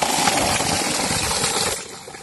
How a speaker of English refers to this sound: And you can see the bore well that we have put here. And it's giving water for the people.